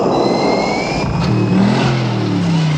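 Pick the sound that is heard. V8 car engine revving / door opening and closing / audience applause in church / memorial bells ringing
V8 car engine revving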